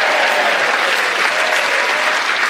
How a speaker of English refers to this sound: so we say the actual winner this week is Paul Merton. Round of applause.